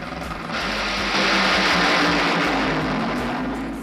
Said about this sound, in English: Was that Santino's Honda Civic just roaring out there? Did y'all hear it, by the way? Was I not the only one who heard the car?